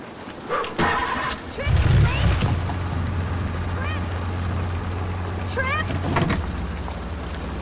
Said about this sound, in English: The others look ashamed as he runs out into the rain and gets into his car.